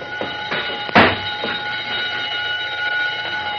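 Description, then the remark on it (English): A burglar alarm, wired along the bottom of a door so that a touch sets it off, rings steadily and loudly throughout, a sustained metallic tone, with a sharp clunk near the start and a few faint knocks underneath. “The burglar alarm wire is along the bottom of the door. A touch will set the alarm off, and who can prove a mouse didn't do it?”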